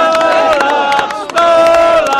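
A crowd surrounding a person questioning the president reacts loudly with sustained shouting and chanting voices, a dense roar of many people that stays strong throughout with a brief dip in the middle.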